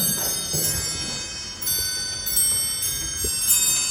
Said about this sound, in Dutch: Wat horen we nou? Oh! De hele oude klok.